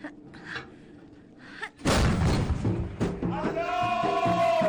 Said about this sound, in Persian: بنداز. چشم. حالا گلوله رو اوریب بندازش داخل لوله. چشم.